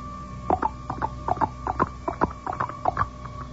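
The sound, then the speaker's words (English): Rhythmic tapping mimics galloping horse hooves: about a dozen sharp taps in an uneven clip-clop pattern over a few seconds, with no voices; the tapping seems to come from a picture. “How about like this? Like a horse.”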